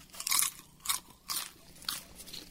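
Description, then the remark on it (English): Crisp crunching of stovetop-popped popcorn being chewed, four bursts of bright crackly noise at a steady chewing rhythm, with faint quiet gaps between bites and no talking. “Good popcorn.”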